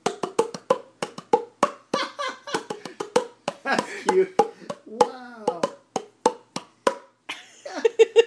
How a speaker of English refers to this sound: So when you cup your hands over your mouth and you clap them, it makes, like, you know, you would kind of clap them like this. Kind of how they're cupped. But you would do it over your mouth, and then you get this sound.